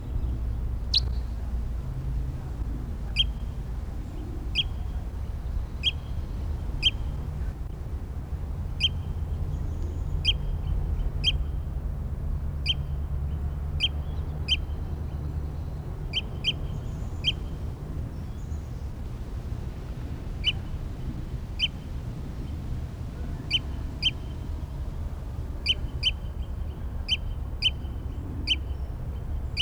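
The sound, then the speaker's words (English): A bird, identified as bird 306 and being recorded, repeats short, high chirping calls in irregular bursts over a steady low rumble of background noise, with no one speaking. “Stop. It's bird 306 again.”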